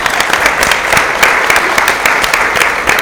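An audience at the Pluto Revealed live taping of Spark Science at the Spark Museum applauds steadily, many hands clapping in a dense, continuous patter with sharp individual claps standing out, fairly loud throughout with no talking.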